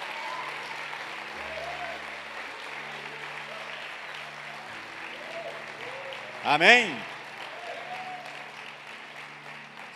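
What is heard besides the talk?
audience applauding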